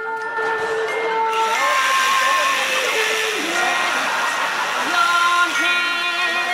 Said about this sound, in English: Trevor comes on with a power tool